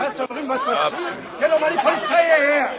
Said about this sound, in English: We were still half a block away when Anna noticed the crowd milling around the entrance.